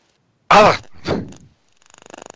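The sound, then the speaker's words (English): A voice mimics a sneeze up close: a loud, sharp breathy burst followed by a second softer syllable, then a quick rattling, pulsing sound that builds briefly at the end. “I think if somebody sneezes and goes,”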